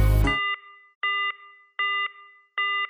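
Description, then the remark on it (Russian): Telephone beeps sound alone in an even rhythm: four steady electronic tones, each lasting about a third of a second, separated by short silent gaps, after a brief burst of noise at the start. “Опять гудки, to be continued.”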